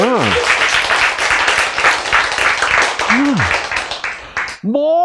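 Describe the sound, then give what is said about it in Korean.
A loud, steady burst of audience applause fills nearly five seconds, with a speaker's voice cutting in briefly over the clapping before it fades out near the end. “그 불로장생약은 어디 있다고? 마음에 있다고. 박수.”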